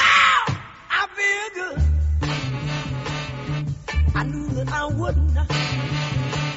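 A song bursts open with a loud, forceful sung cry, then eases into a steady groove driven by a punchy, repeating bass line under the vocals.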